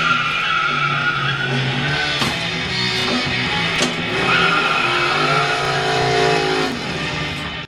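A pinball machine's start-up sound effect: a loud, beefy engine revs and growls as the plunger is pulled back, then tires squeal as it is released, running continuously for several seconds with rising and falling pitch, with no talking.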